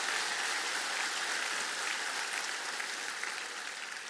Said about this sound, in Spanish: Ahora dar un aplauso de gloria al Señor.